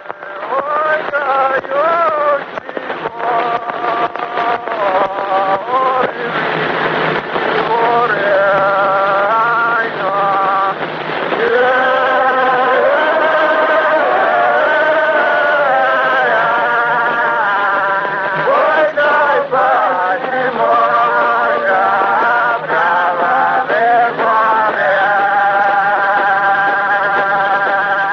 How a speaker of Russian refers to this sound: Этот хор Ленева записала в Тамбовской губернии на фоновалике. Записи из коллекции Пушкинского дома сейчас начинают издавать.